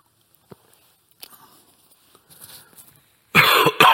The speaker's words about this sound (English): I can already feel the cough coming on. Pardon me for this.